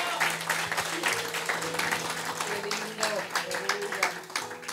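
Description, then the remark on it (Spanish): An audience applauds the Lord in a steady, dense wash of clapping that holds strong throughout, with voices and a few tonal notes, like sustained organ or keyboard sounds, running underneath. “Un aplauso fuerte al Señor por eso.”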